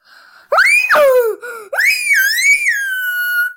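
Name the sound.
screaming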